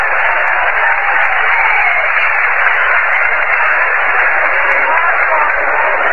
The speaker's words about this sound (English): The next man to come up is going to be Gabby Hartnett. Hartnett coming up, and he's getting a nice round of applause.